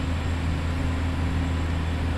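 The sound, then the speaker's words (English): The diesel engine of a dredging vessel floating offshore, which works like a huge vacuum, drones steadily: a deep harmonic rumble layered under a broad wash of mechanical noise, holding the same loud level throughout with no voices. “But this noisy boat might at least slow that timeline.”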